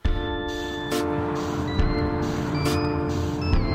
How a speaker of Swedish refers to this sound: Vi sätter oss i bilen på väg mot stadshuset där vi ska träffa Nils Karlsson.